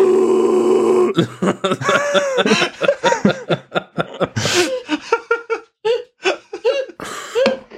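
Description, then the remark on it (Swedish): A loud, drawn-out burp voiced by a woman using her vocal cords rumbles for about a second, then gives way to lively, choppy voices and bursts of laughter. “… rapar är att hon rapar med rösten. Hon använder stämbanden liksom.”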